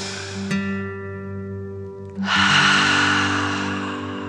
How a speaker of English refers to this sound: Before we begin our story, let's take 3 deep dragon breaths and relax. Breathe in through your nose, filling up your belly, and then out through your mouth, imagining you are breathing fire. Ready? Deep breath in and out.